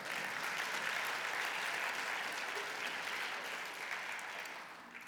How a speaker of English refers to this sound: You can clap for that. That's something to celebrate.